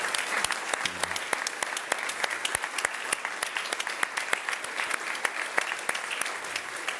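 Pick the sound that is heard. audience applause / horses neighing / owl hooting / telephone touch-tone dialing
audience applause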